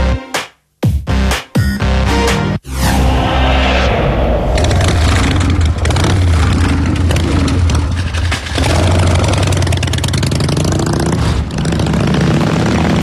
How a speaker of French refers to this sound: Et voilà, cette fois-ci, la moto est partie.